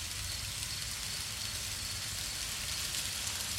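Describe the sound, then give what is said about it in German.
Recorded rain sounds played by Alexa give a steady, continuous hiss with a low rumble underneath, unchanging in loudness for the few seconds, with no voices. “Alexa, spiele Regengeräusche.”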